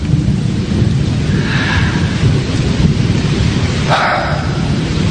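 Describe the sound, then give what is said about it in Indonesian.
Heavy rain pours steadily and loudly, with a deep rumble of thunder rolling underneath throughout; no voices are heard. “Hujan pun mulai turun cukup deras.”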